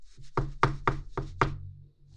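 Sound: knocking on a door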